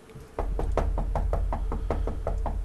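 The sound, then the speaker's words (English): A rapid, steady series of about a dozen knocks on a door, some hits louder than others, over a constant low hum with no one speaking. “Knock loud and then soft and then loud again.”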